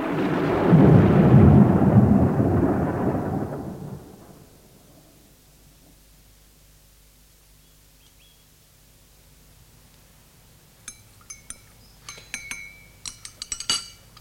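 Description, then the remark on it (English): A loud roll of thunder rumbles deep, then fades away over a few seconds into near silence, followed later by scattered light clinks of glass or dishes. “Let's go back to the inn, Bob. I think there's a storm coming.”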